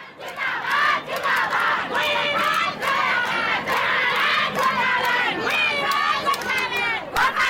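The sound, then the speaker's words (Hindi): A large crowd in the hills of North Bengal, India, chants slogans demanding a separate Gorkhaland state, loud massed voices rising and falling in repeated shouted phrases that run without a break from start to finish. “उत्तर बंगाल के पहाड़ों पर अलग गोरखा लैंड राज्य की मांग के नारे गूंज रहे हैं।”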